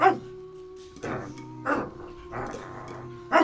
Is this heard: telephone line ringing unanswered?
no